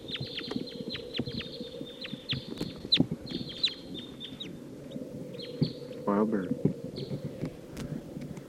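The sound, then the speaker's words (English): A flock of wild birds taking off to the south and circling around, amid a busy flurry of high, rapid chirps and clucking calls, with sharp flapping clicks scattered throughout over a steady low rumble. “Wild bird taking off to the south. Circling around.”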